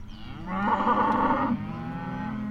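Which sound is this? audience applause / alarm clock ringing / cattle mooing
cattle mooing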